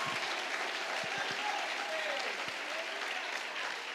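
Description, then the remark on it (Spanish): A crowd applauds steadily for the King of Kings, a dense wash of many hands clapping at an even level for several seconds, with a few faint vocal shouts rising briefly through the noise. “Si usted lo cree, dele fuerte ese aplauso al Rey de Reyes.”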